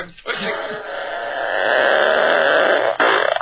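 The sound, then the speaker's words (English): A single long, drawn-out burp rumbles for about three seconds, growing steadily louder before breaking off into a brief, choppy final burst, following Chinese food eaten the night before. “That was the sounds coming from the winery this morning after the Chinese food we ate about 11 o'clock last night.”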